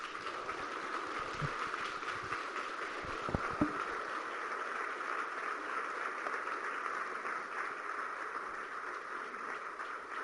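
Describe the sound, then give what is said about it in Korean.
A crowd applauds steadily after a speech by labor activist Kim Jin-suk, a dense, even wash of many hands clapping that holds at a fairly constant level for about ten seconds, with a couple of sharper claps standing out early on. “예, 우리 그 감동적인 연설을 하신 김진숙 동지에게 다시 한번 우려에 갔던 박수를 부탁드립니다.”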